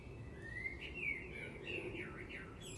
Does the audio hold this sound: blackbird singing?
yes